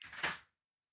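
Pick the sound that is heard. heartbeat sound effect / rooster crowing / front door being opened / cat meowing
front door being opened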